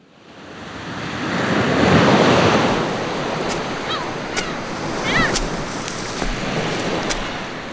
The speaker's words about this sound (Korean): 우리 딸하고 바닷가를 이렇게 걸어보는 것도 처음인 것 같네.